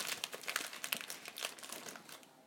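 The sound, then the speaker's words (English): A crinkly plastic snack packet is rustled and crumpled, a dense run of sharp crackles lasting a couple of seconds and easing off at the end, as treats are handed out from it. “Excuse the rustling.”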